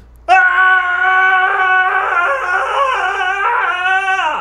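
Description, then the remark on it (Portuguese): A man in a video lets out one long, high-pitched scream, loud, holding a strained wavering tone for about four seconds before cutting off abruptly, with no talking around it. “Esse é o grito da sua masculinidade?”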